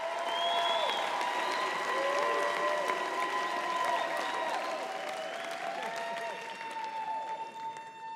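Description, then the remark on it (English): A large audience claps and cheers steadily as a performer on stage walks away from the mic stand and drinks a glass of water, with whoops and shouts rising over dense applause that holds strong for several seconds before starting to thin toward the end. “He walks away from the mic stand and grabs a glass of water, then drinks as the crowd cheers.”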